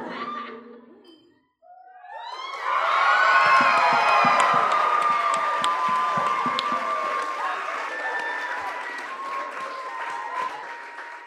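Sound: audience cheering and applauding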